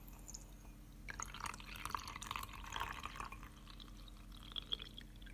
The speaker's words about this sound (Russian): Наливаем теплой горячей водички.